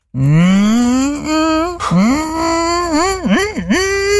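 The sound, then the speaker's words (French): A voice imitates an electric lawnmower with a sustained, buzzing hum that rises in pitch, drops and climbs again, then warbles with two quick dips near the end, loud and unbroken for about four seconds. “Une tondeuse électrique.”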